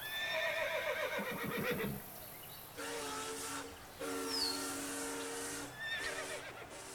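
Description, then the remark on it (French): A horse gives a long, wavering whinny for about two seconds, then a train horn sounds in several sustained blasts. No one speaks. “Là-bas, j'entends mon cheval qui pète au loin.”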